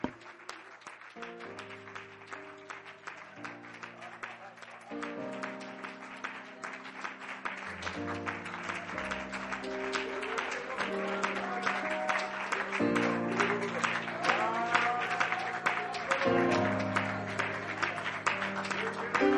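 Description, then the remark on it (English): A large crowd in Sterling, Alaska gives the Lord a round of applause in worship, clapping steadily for about twenty seconds, the applause swelling slightly louder toward the end while sustained keyboard or organ chords play underneath. “Can we give the Lord just a big round of applause?”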